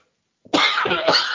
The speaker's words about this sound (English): Sorry. Ooh, that voice made me cough.